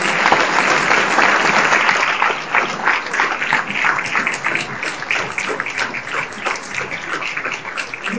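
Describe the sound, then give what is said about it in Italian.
A room full of people applauding steadily, a dense wash of many hands clapping at once that stays loud throughout and eases only slightly toward the end. “Un applausone per tutti.”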